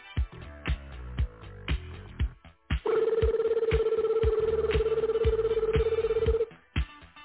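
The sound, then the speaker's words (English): A telephone rings with one long, buzzy electronic trill lasting a few seconds, loud and steady, while a thumping rhythmic beat plays underneath before and after it. “Now, that weird-ass phone call just came.”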